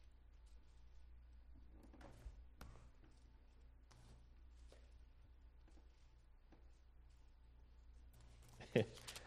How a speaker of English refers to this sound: I looked up to see if anybody noticed, but all of you were turning in your Bible, that's good.